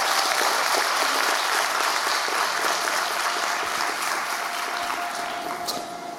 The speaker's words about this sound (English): How about another round of applause for that very moving piece? Excellent job.